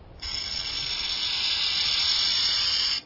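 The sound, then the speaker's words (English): A sustained, steady hiss starts abruptly and holds for nearly three seconds, a harsh buzzing rasp like a rattlesnake's warning, produced by a burrowing owl mimicking the snake. “In one experiment, ground squirrels were nearly as alarmed by the burrowing owl's hiss as they were by the recording of a real rattlesnake”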